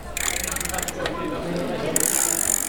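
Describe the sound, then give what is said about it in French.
A bicycle ratchet clicks in a fast, even run for under a second during a bike repair at a Repair Café in Red Cross premises in Belgium, then quieter mechanical rattling follows, ending with a steady bright hiss. “Aujourd'hui, édition spéciale réparation de vélo. Une chaîne qui déraille, des freins mal ajustés.”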